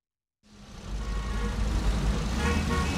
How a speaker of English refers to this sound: There were lots of cars on the road. Their car couldn't move.